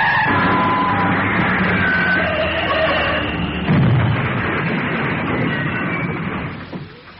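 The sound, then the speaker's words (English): A worn-out car going too fast, its steering gone, skids with squealing tyres, then crashes in a loud, sustained jumble of metallic impacts and rumbling debris that fades out at the end. “This car's too clapped out for speed. Look out! It's no good! The steering's gone!”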